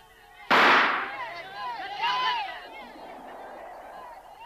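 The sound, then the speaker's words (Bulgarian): A sudden loud volley of hunting rifle shots, fired on a shouted command, bursts out as one sharp crack, then rolls off in a long rumbling tail while indistinct voices shout and call out underneath. “Първият залп ще дадем с мушкетите. Вторият с ловните пушки.”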